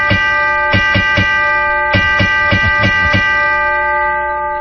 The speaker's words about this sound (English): Okay. Ring that bell. Yeah. Are you ringing it for the reason I think it is? Yeah. That's right. Non-stop chime time.